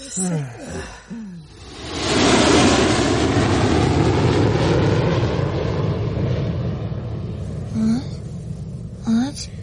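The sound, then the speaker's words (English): A jet engine roar swells up loudly and holds as a steady, rumbling wash as a plane takes off, heard from the end of the runway. Brief voices sound at the start and again near the end. “It's just a plane taking off. We're at the end of the runway, remember?”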